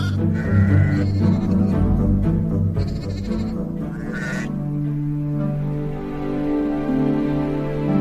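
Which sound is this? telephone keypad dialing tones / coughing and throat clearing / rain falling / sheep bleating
sheep bleating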